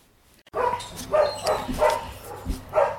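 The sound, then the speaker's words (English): Several dogs bark in a busy, overlapping chorus of sharp repeated barks at a dog rescue centre at Wickhamford near Evesham, set against an echoing background hum. “Today, I'm at the Dogs Trust at Wickhamford near Evesham”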